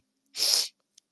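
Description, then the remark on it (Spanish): A single short, sharp cough, breathy and hissing, standing alone with no talking around it, followed by a faint click a moment later. “Dios, quiero toser.”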